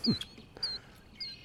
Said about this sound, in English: That's a killdeer.